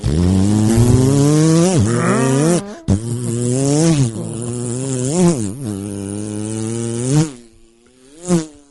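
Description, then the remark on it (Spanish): A voice imitates a small motorcycle engine with a continuous nasal buzz that rises and falls in pitch like revving, with brief breaks, ending in a couple of short bursts. “Suena ya un mosquito, güey.”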